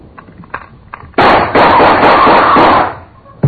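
A few faint clicks, then a sudden, loud burst of rapid gunfire roars for about two seconds, close and harsh, before cutting off; another sharp bang hits right at the end.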